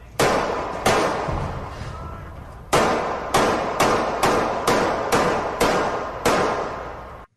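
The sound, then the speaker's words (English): A series of sharp gunshots in faint recorded audio that was enhanced: two bangs, a brief pause, then about nine more in quick, fairly even succession, each loud and cracking with a short ringing decay, part of 19 shots fired that killed a 16-year-old and wounded a 14-year-old. No one speaks. “Then 10 shots. 9, then 10. 19 shots fired, killing the 16-year-old kid, putting the 14-year-old in ICU.”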